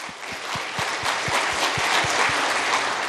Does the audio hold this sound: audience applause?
yes